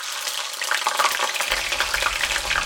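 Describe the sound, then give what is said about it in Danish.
A deep fryer bubbles and sizzles steadily at Sam's Chicken, a grill bar in London, a dense crackling hiss with rapid popping throughout, joined by a low rumble partway through. No one speaks. “Kvartyren bobler i baggrunden på en grillbar i London.”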